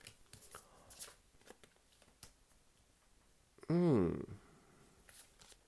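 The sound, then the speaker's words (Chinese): Soft, irregular papery flicks and taps as playing cards are shuffled, laid out and turned open, briefly interrupted by a short, much louder voiced sound before the quiet card handling resumes. “好，接下来我们就进入第一组《海边的房间》，让我来把牌打开。”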